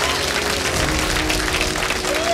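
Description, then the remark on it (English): A live audience in Los Angeles on a Tuesday night applauds loudly and continuously, with dense clapping and a brief cheer or whistle rising near the end. “Make some noise for yourselves for coming out on a beautiful Los Angeles Tuesday night.”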